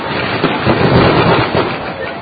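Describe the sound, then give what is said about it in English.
A dense, nonstop barrage of fireworks and firecrackers being lit in the middle of a crowd on the street, the pops blurring into one loud, steady crackling roar with faint voices buried underneath. “Well, everyone else is lighting them in the middle of the crowd, but I guess we could...”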